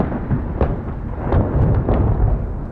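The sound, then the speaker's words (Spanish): A loud roll of thunder rumbles deep and steady throughout, broken by several sharp crackling bursts, during a rainy electrical storm, with no voices present. “Tal vez era más una tormenta eléctrica, porque recuerdo que un rayo hizo que se fuera la luz unos segundos.”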